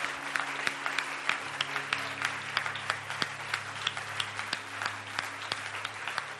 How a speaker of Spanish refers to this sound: El Señor es bueno, pueblo. Vamos a darle un aplauso al Rey de Reyes, Señor de Señores.